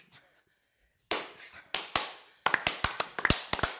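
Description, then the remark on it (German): A small group claps by hand on a countdown among pallets stacked 3 meters high with boxes: a few scattered claps first, then a quicker run of sharp slaps that quickly fades, with faint voices just before. “Wenn man mit einem Applaus einsteigt, im Angesicht der Kisten, die hier um uns rumstehen, kann man schon mal die zahlreichen um uns rumstehen.”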